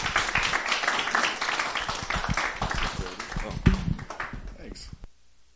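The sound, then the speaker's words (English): An audience welcoming a guest speaker breaks into a dense, steady round of applause, many hands clapping at once with some voices mixed in, holding strong for about five seconds before quickly dying away. “Let's just warmly welcome him with a round of applause.”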